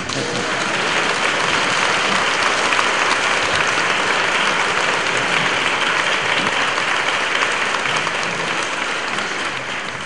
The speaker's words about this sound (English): You don't want to clap. Nechcete zatleskat?